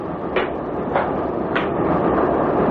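A train bound for Paddington rolls steadily along the rails with a constant low rumble, punctuated by three evenly spaced clacks of the wheels over track joints. No one speaks.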